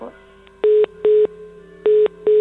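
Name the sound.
telephone tone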